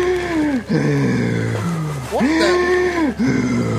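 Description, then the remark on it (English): A voice makes loud, donkey-like braying breaths during a yoga breathing exercise in bed, in two long voiced swoops, each rising and falling in pitch, with a short pause between them. “Why do you sound like a donkey”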